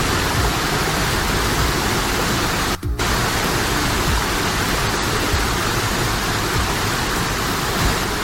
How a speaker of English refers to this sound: Glen Helen Waterfall.